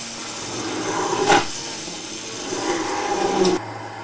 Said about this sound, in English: So I've got this blender, it's quite powerful, and what I'm going to do is I'm going to blend that in the pan.